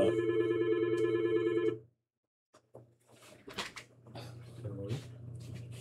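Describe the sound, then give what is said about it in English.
A telephone rings with a steady electronic warble for about two seconds, then cuts off abruptly. A short silence follows, then quiet clunks and handling noises as the phone is picked up. “Phone is ringing, sorry, a little interruption here.”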